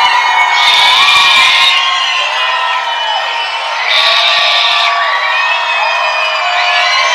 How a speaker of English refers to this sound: A ruckus crowd here in Charleston.